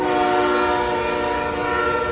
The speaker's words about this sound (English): I have to plug my ears while the train goes by. I can't talk loud.